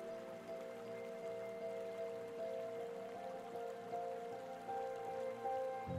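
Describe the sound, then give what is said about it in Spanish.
A soft, steady trickle of water from a spring of pure, clear drinking water runs without pause, a gentle continuous splashing with light watery patter and no voices. “Pronto escuchas un suave sonido de agua, pero esta vez no proviene de las olas del mar.”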